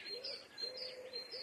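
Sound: owl call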